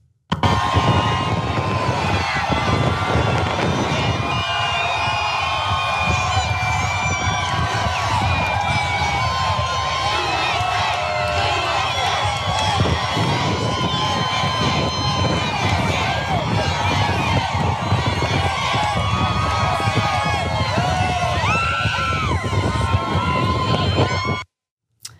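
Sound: crowd cheering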